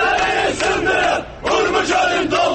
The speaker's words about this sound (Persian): عده‌ای از شهروندان تبریز در اعتراض به وضعیت دریاچه ارومیه در خیابان‌ها اعتراض کردند و از رئیس جمهور پرسیدند روحانی وعده‌ها چه شد؟ در اعتراضهایی که ویدیوهاش در شبکه‌های اجتماعی دنیای مجازی منتشر شد شعار می‌دادند سدها را بشکنید و ارومیه را پر آب کنید.